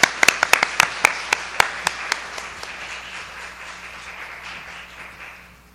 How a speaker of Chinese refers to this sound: 我哋以热烈嘅掌声